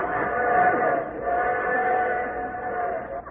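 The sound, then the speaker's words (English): A train whistle sounds in two long, steady blasts with a brief break between them, loud and sustained over a low rumble. “It's a train whistle.”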